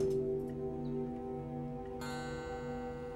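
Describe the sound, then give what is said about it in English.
A clock in a quiet house chimes with a sustained, ringing bell tone, and a second bright strike rings out partway through, layering over the fading hum. It's moderately loud, with no voices. “She glances over at the chiming clock, then down at her wristwatch.”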